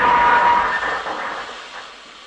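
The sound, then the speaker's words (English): A train grinds to a halt after its emergency stop is pulled while passing Berwick Abbey, with a steady metallic brake squeal and rushing hiss at first that gradually fades as the carriages slow and settle. No voices. “I noticed a photo of Berwick Abbey, which we were just passing at the time, and so, on a whim, I pulled the emergency stop, paid the fine, and stepped lightly from the train.”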